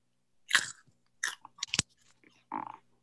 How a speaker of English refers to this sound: And for listeners, because they cannot see this carrot, I'm going to do an audio. And here goes, guys. First crunch of my winter carrot.